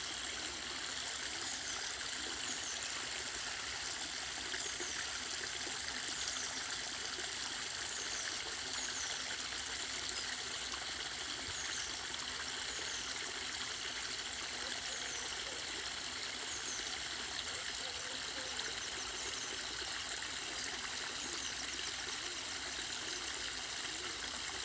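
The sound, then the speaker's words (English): A bubbling stream flows steadily and continuously, a soft, even rush of water with no voices, holding at a constant moderate level throughout. “Inhaling, receiving in the calmness of nature, the bubbling stream, the old oak tree, the birds at dawn, receiving that calm into the body”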